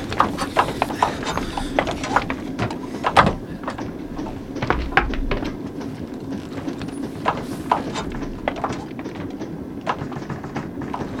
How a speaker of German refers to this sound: Moment mal! Hört ihr das? So ein Klopfen? So ein Klopfen? Ja, das kommt aus dem Speisewagen. Ja, das kommt von der Klotür hier. Wer ist da drauf? Er scheint ziemlich dringend wieder raus zu wollen.